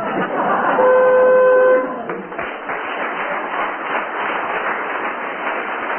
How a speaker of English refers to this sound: Last orders, please. I thought that was me. It was the buzzer. Yes, it meant that you're disqualified.